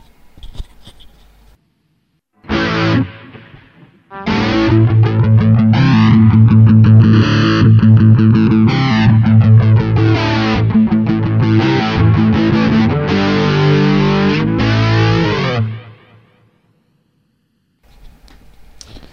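Heavily distorted electric guitar chugs out a rock rhythm, starting with a brief stab and then a steady run of chords, with a sweeping flanger swoosh rising and falling across the tone; a dynamic exciter and distortion with extra bass and a touch of extra treble on the EQ.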